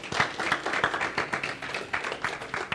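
A church audience claps their hands together, a dense, steady patter of many overlapping claps at moderate loudness, with no clear voices over it.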